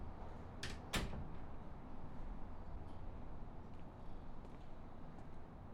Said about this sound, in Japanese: 急に隣の家の扉が開いてびっくりした？